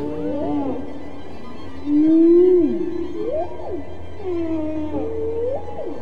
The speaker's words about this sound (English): Dr. Payne's whale songs are now part of a concerto called And God Created Great Whales, played this week for the first time by the New York Philharmonic.